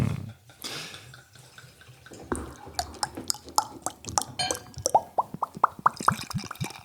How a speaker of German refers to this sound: Es schäumt auch so schön im Glas.